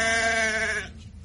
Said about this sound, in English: A lot of sheep.